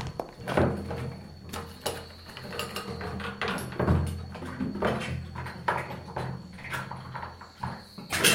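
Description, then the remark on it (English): A small bedside cupboard door clicks open and its contents are rummaged through in search of a sleeping woman's belongings, with a string of wooden knocks, clacks and rattles at an irregular pace and no voices. “Quick, before she wakes up. The cupboard next to her bed.”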